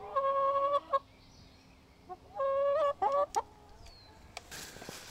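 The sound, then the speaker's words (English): Chickens right near the house on a farm in southeastern Wisconsin on a spring morning: two drawn-out, squawking cries followed by a few short, sharp clucks, with quiet outdoor background and no talking. “There are sheep and goats, lots of barn cats, and chickens right near the house.”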